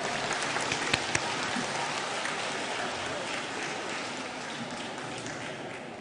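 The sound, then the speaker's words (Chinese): A large audience applauds steadily to welcome Lu Junhong onstage for a totem reading, a dense, even wash of clapping that holds at a constant loudness for several seconds, with a couple of sharper claps standing out near the start. “下面让我们用最热烈的掌声恭请尊敬的卢军宏台长为我们慈悲看图腾。”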